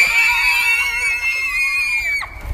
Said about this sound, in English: Can we scream? Can we scream? You can scream if you want.